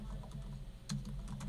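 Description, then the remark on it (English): Quick clicks of typing on a computer keyboard, several keystrokes in an uneven patter over a low steady hum. No one speaks. “Hear me typing?”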